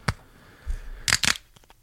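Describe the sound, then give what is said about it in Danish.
The screw cap of a bottle of Chilean chardonnay from the local Spar is twisted open: a short crackle, a soft low thump, then two bright, rasping crackles as the seal snaps, trailing off into faint ticks. “Og den vakse lytter vil opdage, at det ikke var en prop. Det var et skruelåg.”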